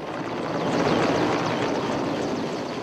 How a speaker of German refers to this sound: Löschflugzeuge und Hubschrauber fliegen in niedriger Höhe über die brennenden Büsche und Bäume und werfen tonnenweise Wasser ab.